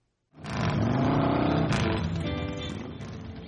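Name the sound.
motorcycle engines revving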